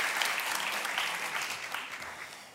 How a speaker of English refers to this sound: Give Cole a little round of applause.